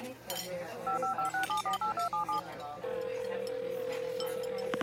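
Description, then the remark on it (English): A quick run of about nine keypad beeps as a phone number is dialed, each a short dual-tone blip in steady rhythm, followed by a long unbroken phone tone, with faint clinking and background noise. “Now, where is that guy's phone number? There we go.”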